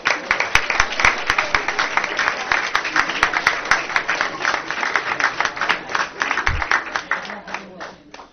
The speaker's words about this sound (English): And a round of applause for both teams.